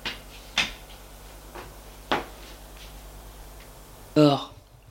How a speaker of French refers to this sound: Denis ferme la porte.